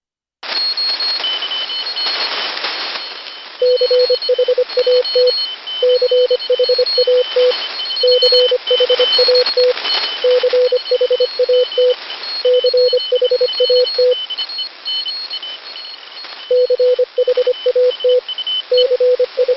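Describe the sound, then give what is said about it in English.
Morse code beeps at a steady mid pitch spell the word "chat" (C-H-A-T), keyed in short and long groups that repeat after brief pauses, over a constant wash of radio static and faint interfering tones (QRM). “Try to hear that same word, chat, with QRM.”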